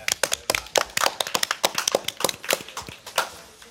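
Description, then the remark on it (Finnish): An audience at Helsinki Central Library Oodi, during a live broadcast of Kulttuuri Ykkönen, applauds with a brisk, uneven patter of overlapping handclaps that keeps up steadily, then thins out and trails off near the end. No one speaks. “Kiitos ja aplodit.”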